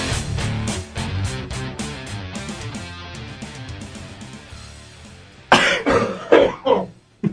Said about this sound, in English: Everybody coughs at the end.